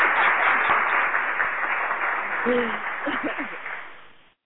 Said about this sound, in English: Give yourself a round of applause. What's good with that? Give myself a round of applause, man, because I work hard, baby. I work hard.